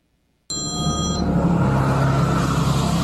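A brief electronic mobile phone ring sounds once over a steady, loud rumble of a running vehicle, then fades while the engine noise continues.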